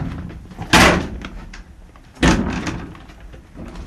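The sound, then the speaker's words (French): Window shutters swing open with two loud, sharp wooden bangs about a second and a half apart, each followed by a brief rattle, over a low background hum. “Voilà, donc là, à travers ces persiennes qu'on vient d'ouvrir, eh ben, on peut voir voilà, un coyote hein, qui nous regarde, nous aussi, un ours qui se balade au loin.”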